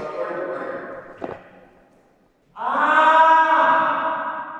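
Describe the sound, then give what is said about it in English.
A wavering, tonal voice trails off and fades into silence, then a person in a corner lets out a loud, sustained scream with a rich harmonic ring that rings out, echoing under big curved metal ceiling panels with nothing to absorb the sound. “And with nothing to absorb the sound, anything you say or do creates these magnificent echoes.”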